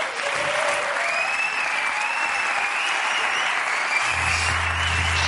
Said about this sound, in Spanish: Un aplauso para César Naval en la Resistencia. Y de la que se va César, pido otro aplauso para Ricardo Castella, director del programa.